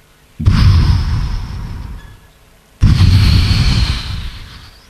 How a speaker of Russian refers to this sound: Океан шумит.